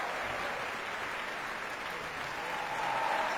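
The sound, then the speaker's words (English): The cast of a Metropolitan Opera performance applauds the chorus on stage, steady, dense clapping at an even, fairly loud level with no voices standing out. “And now they're all, the cast is applauding for the chorus.”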